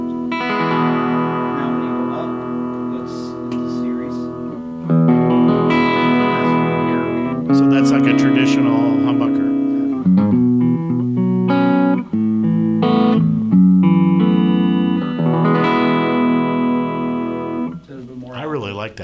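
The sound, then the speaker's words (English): An electric guitar played through the middle pickup in single-coil mode, with bright, chiming chords and single-note lines ringing out clearly at a steady, fairly loud level, with no talking over it. “That's the single coil.”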